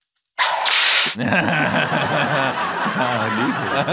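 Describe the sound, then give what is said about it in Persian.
A sharp, loud whip crack sound effect with a hissing swish bursts out once, then laughter and chatter from voices follow and continue to the end. “الان صدای شلاق با توجه به شرایط مناسبه؟”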